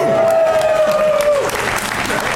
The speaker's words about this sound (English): I get up. I like the applause. It gets me up like Tinkerbell.